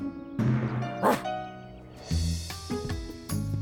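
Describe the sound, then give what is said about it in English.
A big red dog barks several times in loud, deep woofs with short gaps between them, and no one talks over them. “A big dog like that needs a big workout. Does he like to fetch balls? Sure. Woof.”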